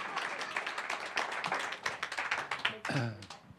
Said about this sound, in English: Thank you. We can do better than that. Let's really give them the clap, huh? Let's give them the clap. Yeah. Woo! Bravo. Bravo.